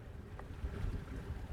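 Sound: water sounds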